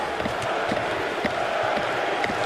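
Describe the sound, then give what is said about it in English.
A large hockey arena crowd on the home side chants "Fleury" for French-Canadian goaltender Marc-Andre Fleury as he picks up his 500th career win. Many voices merge into a loud, continuous roar with regular pulses roughly twice per second. “Fleury, Fleury is the chant from the home side for the French-Canadian netminder, who picks up his 500th career win”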